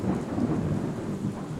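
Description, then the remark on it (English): Thunder rumbles low and steady during a storm through the whole stretch, a deep rolling roar with a wash of rain hiss over it, fairly loud and continuous, with no voices. “Some of you guys that are listening at work right now are probably just getting PTSD with these lightning.”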